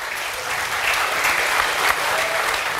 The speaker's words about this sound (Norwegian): Og hovedgjesten, Per Sandberg, kraftig applaus.